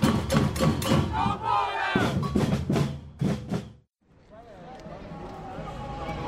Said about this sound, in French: Bonjour, vous êtes bien sur les ondes de Radio Panique pour le point quotidien sur la marche de solidarité avec et sans papier. On est sur la place Howard à Saint-Josse et voilà la marche qui est en train d'arriver.